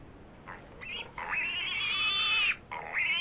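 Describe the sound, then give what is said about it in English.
A pig squealing sound effect played by pressing a button: a few short grunting squeals followed by a long, high, wavering squeal and a final shrill burst, loud, with no talking. “I need you to hit a little piggly wiggly button for me, buddy.”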